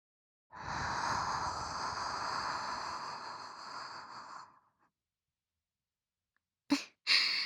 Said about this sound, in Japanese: 実際のところは反対の耳もふーってしてほしいんですよね。こういう風に。